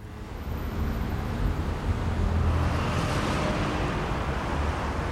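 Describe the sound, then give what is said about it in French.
A steady wash of city traffic at the Place de la Concorde: cars driving with all lights on rumble past in a continuous, dense hum with no single vehicle standing out, fairly loud throughout and no voices. “Circulation de voitures qui roulent tous feux allumés.”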